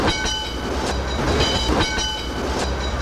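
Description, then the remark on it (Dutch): An electric tram in Colombo, riding to Borella, rolls steadily along its rails, a constant low rumble with a faint motor whine and irregular clacks from the wheels over joints, without any voices. “We reden dan met een elektrische tramwagen naar de Borella op een klein half uurtje.”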